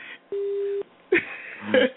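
A telephone line's disconnect tone as a caller hangs up on a radio call-in show on WSLM AM 600: one steady, mid-pitched beep lasting about half a second, followed by clicks and brief garbled voice fragments over a thin, phone-quality line.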